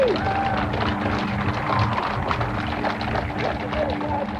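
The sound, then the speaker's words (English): A large crowd cheers and calls out encouragement to a woman addressing them, who has paused, emotional and dabbing her eyes, in a steady, continuous roar. The noise stays dense and fairly loud throughout, with individual voices blending into the mass. “You can hear her husband ask if she has a handkerchief, and she draws one from her pocket and she dabs her eyes while the cheers continue.”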